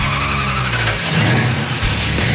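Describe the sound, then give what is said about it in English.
A 1973 Dodge Charger muscle car engine (a Mopar) revs loudly, its deep rumbling roar rising and surging over a couple of seconds, with no voices present. “Sounds like a proper Mopar to me.”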